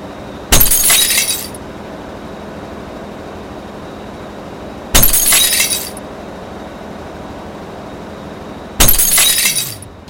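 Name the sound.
glass breaking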